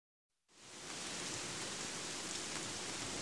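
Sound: heavy rain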